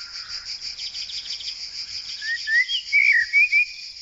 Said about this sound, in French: Le bruit des cigales.